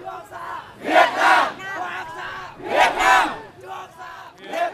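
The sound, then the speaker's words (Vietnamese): A large crowd in Vietnam chants "Việt Nam!" in unison at a protest against China placing an oil rig in the East Sea, loud shouted phrases rising in rhythmic swells about every two seconds, with many voices blending together between the peaks. “Biểu tình tại Việt Nam chống Trung Quốc đặt giàn khoan dầu ở Biển Đông.”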